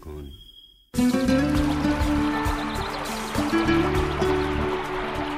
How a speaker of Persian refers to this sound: صدای پای آب.